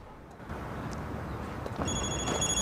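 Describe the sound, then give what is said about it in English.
A mobile phone starts ringing partway through as a man walking through a complex gets a call, a bright electronic ringtone chiming over steady background noise and rumble, with no one speaking. “On his way through the complex, Harry gets a call on his mobile.”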